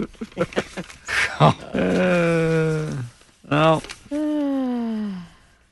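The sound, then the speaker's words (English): A dog, running away during a police car chase, whimpers and growls: a few short, gruff bursts followed by several long, drawn-out whines that sag in pitch, fairly loud and separated by brief pauses. “Oh, no! The dog is running away. The dog is okay.”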